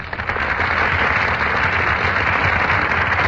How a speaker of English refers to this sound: That burst of applause, ladies and gentlemen, is for Brian Ahern and Joan Fontaine, who are just entering our Gulf Theater stage.